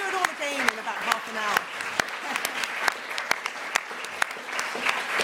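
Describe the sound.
An audience applauds steadily, a dense wash of many hands clapping at once with a few sharper claps standing out, while some voices are briefly heard underneath near the start.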